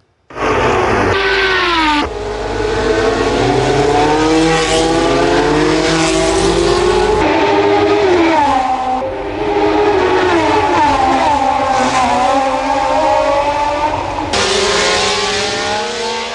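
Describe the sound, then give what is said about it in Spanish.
Roaring race car engines of the 1970s and 80s rev and scream continuously, pitch climbing and dropping as cars accelerate past, loud, with several abrupt cuts between passes. “Bueno, ya lo escucharon, ese era el rugir precisamente de los motores que había en esa época, 70s, 80s.”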